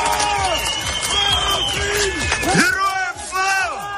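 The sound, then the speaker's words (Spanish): Dozens of Ukrainians shout and cheer together outdoors in the streets of Kherson, Ukraine, with flags, celebrating the Russian withdrawal with cries of glory to Ukraine; overlapping calls rise and fall in loud, continuous bursts, with occasional louder whoops standing out. “Decenas de ucranianos han salido a las calles de Jersón para celebrar la retirada rusa con banderas de su país y con gritos de gloria a Ucrania.”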